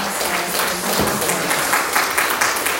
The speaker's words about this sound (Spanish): Muchas gracias. Aplausos a las voces.